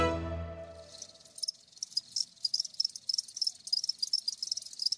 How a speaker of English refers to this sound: The sounds of crickets can be heard everywhere on Margaret Auma's farm. The 58-year-old has been farming crickets for her own consumption and for sale for 6 years now.